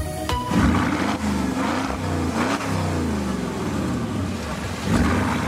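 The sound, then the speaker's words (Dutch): A 2004 Porsche Cayenne Turbo engine revs loudly, its deep growl rising and falling in pitch through several throttle blips over a continuous roar, with no talking. “Dit is gewoon de Porsche Cayenne Turbo uit 2004. Klinkt best lekker eigenlijk.”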